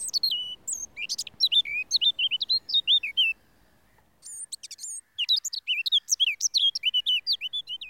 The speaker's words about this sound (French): c'est un milieu qui peut être occupé par la fauvette à tête noire. Le chant est une phrase très courte, souvent répétée. Ça monte et ça descend, on dirait un petit peu un ruisseau de montagne qui traverse les rochers.